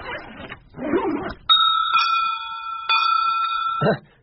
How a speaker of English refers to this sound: Bells? Yes, bells. Aren't they lovely?